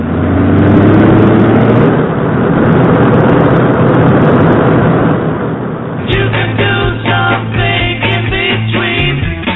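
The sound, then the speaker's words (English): A powerful sports car engine roars loudly at a museum of sports and racing cars in Lány, about 30-35 km from Prague, a dense, steady growl that shifts into a different, more tonal idle-like rumble for the last few seconds. “a hobby being kept very much alive inside the building in front of which I'm standing now, the Museum of Sports Cars.”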